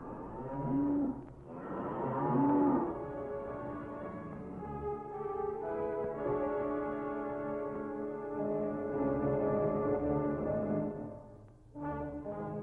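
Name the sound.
ox mooing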